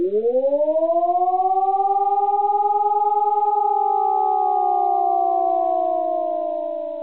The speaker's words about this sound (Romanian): Prealarmă aeriană, semnal compus din 3 sunete a câte 32 de secunde fiecare, cu o pauză de 12 secunde. Alarmă aeriană.